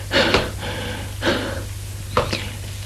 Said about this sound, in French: Pas à pas, essoufflé. Arrive en haut.